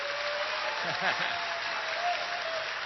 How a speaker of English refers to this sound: We've got a live audience here at the Eureka Theater. And yes, there's a little bit of echo in the room because this is a huge Art Deco establishment. Can we have a little applause, please, so people can hear our live audience?